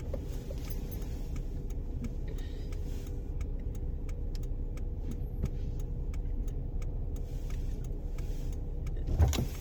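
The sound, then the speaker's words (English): Inside a car in traffic: a steady low engine and road rumble with a quick, regular ticking through the middle, like a turn signal. No one speaks. “And just allowed me, like, even right now, I'm in traffic.”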